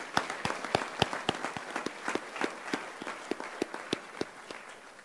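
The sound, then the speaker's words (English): A small group applauds at the grand opening of a sports complex, thanking everyone who had a part in it: sharp, crisp claps repeating in a quick, fairly steady rhythm over a constant wash of quieter clapping, holding an even level for about five seconds. “Give me a round of applause for everybody that's had a part in it.”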